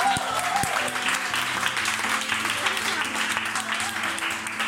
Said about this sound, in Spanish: ¡Ole! ¡Un aplauso!